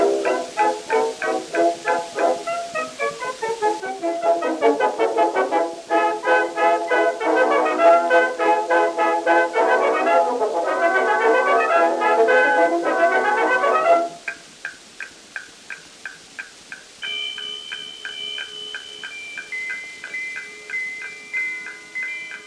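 A tinny, narrow-band 1917 band recording played from an Edison Blue Amberol wax cylinder: brass and woodwinds play a bouncy tune, then give way to quieter, pulsing passages of high, bell-like chiming tones.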